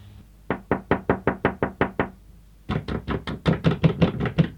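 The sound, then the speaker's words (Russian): Two bursts of rapid knocking on a locked door, first about eight even raps, then after a short pause a louder, quicker series of a dozen or so sharp knocks, with no voices. “Что это ты вдруг заперся? Ну, отвори!”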